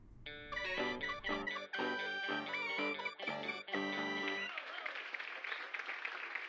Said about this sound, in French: Son sang se glaça en entendant les foutus applaudissements.